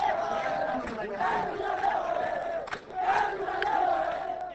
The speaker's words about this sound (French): Cette foule qui scandait des slogans contre les autorités civiles et militaires du Nord Kivu